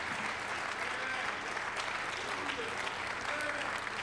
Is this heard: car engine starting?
no